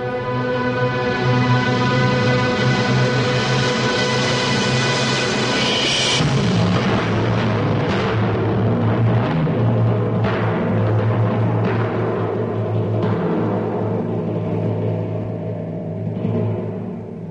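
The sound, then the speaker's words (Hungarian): A heavy, thunderous rumble of mountains collapsing under the thunder rolls on without pause, loud and dense, with several sharp crashing bursts breaking through and sustained droning tones running underneath. “Hegyek mennydörgéssé fokozták a mester hangját, és ez a mennydörgés leomlasztotta őket.”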